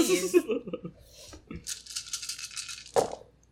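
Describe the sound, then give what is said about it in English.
Ten dice clatter and rattle across a hard tabletop, rolled for a ranged combat attack with a firearm in a tabletop game, a loud burst of rolling clicks that tumbles on for a couple of seconds before settling, with a sharper knock near the end. “Roll ranged combat and see if...”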